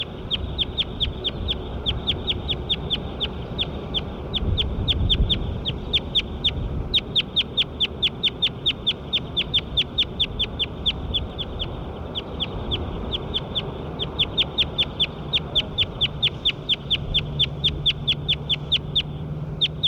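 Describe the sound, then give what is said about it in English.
A bird, bird 9 in a recording session, calls in a fast, steady run of high-pitched chirps, several per second, continuing for the whole stretch over a low background rumble. No one speaks. “Start recording bird 9 again.”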